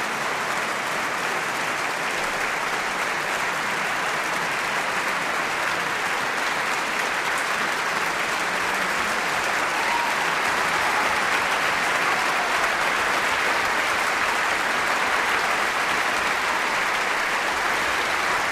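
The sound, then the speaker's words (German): Sustained, dense applause from a large concert audience in the great broadcast hall of the NDR Landesfunkhaus in Hannover, after Mendelssohn's Violin Concerto in E minor, Op. 64, played with the NDR Radio Philharmonie, as Hilary Hahn and Eivind Wilberg-Jensen return to the stage. Occasional shouts of bravo rise faintly above the steady clapping. “Bravos und prasselnden Beifall.”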